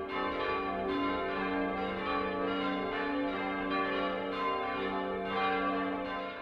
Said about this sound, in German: Der alte Stahlglockenstuhl wurde durch einen hölzernen ersetzt und die Schallaustrittsöffnung mit Holz verbrettert. Das Geläut klingt nun weicher, aber auch etwas leiser und vor allem im oberen Bereich matter.